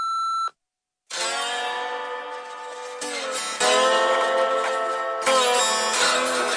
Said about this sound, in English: Unfortunately, I can't answer the phone right now, so please leave a message at the beep.